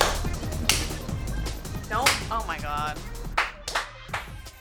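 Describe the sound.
A few sharp hand claps ring out at irregular intervals, crisp and fairly loud, with voices and some laughing sounds mixed in between them.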